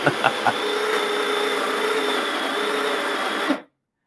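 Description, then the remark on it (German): A loud coffee grinder on a coffee machine grinds about 17 grams of coffee beans in one continuous, harsh mechanical burst, starting with a few sharp crunches and cutting off abruptly after about three and a half seconds. “dass es richtig den Zuhörern die Ohren rausfliegen, wenn die Mühle mahlt”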